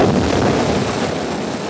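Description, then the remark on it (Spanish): A hidden cannon at a ship's bow fires on an official launch, erupting as a dense, roaring blast that rumbles on without break, loud and steady throughout, with no voices. “¡Nos están disparando!”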